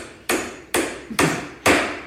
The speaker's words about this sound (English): Where's the hammer? I don't hear it. Is it on the... Go up on the other floor. Somebody go up there and stop the hammering. Stop the hammering.